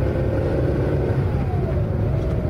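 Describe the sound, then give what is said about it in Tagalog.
A car engine revs steadily as the vehicle accelerates too fast in a radio road-safety message from DZUP 1602, a loud, continuous rumble with a rising mechanical whine, no voices over it. “Oh, dahan-dahan lang! Huwag masyadong mabilis!”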